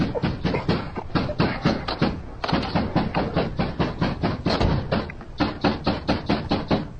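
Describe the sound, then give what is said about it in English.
Fists pound hard on a door in a rapid, relentless series of heavy thuds, roughly four blows a second, loud, continuing without pause for several seconds. “As he reached the secret panel, he heard shouting and pounding.”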